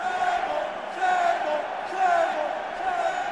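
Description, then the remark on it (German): A large crowd of Bologna supporters chants and roars in unison at a football match between Borussia Dortmund and Bologna, the massed voices swelling in a steady rhythmic pattern roughly once a second, loud and dense throughout with no single voice standing out. “Gotro-Fans singen Liga Mafia, die Tifosi von Bologna, die brüllen, übersetzt Witz.”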